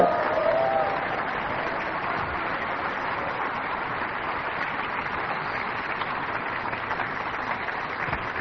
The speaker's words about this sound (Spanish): Vamos, dale un aplauso al que vive.